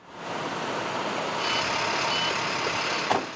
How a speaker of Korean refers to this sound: 그리고 금요일 새벽 큰 트럭에 신선한 채소를 가득 싣고는 대도시의 복잡한 도로를 지나 윈스턴 앤 스트론 법률회사 건물에 도착하지요.